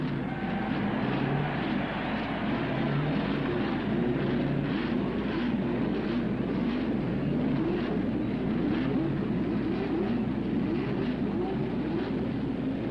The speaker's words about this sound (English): Track president Tony Holman signals a start. Gentlemen, start your engines.